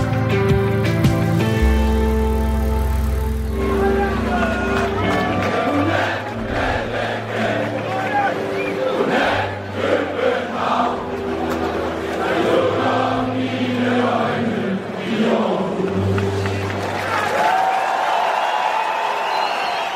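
A large football stadium crowd at an AGF home match in the Superliga in Aarhus sings together in a loud, sustained chorus, voices blending into a roaring melody with some shouting and cheering mixed in, continuous throughout.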